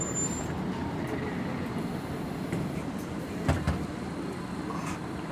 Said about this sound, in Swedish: Då har vi en ny buss på ingång här. En lite nyare modell tror jag.